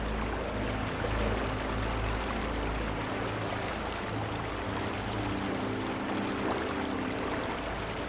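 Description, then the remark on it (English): A steady rush of water flowing over massive tree roots and swirling around twigs, at the title of the film The Revenant, fills the scene with a constant, even wash of sound. Nobody speaks. “Water flows over massive tree roots.”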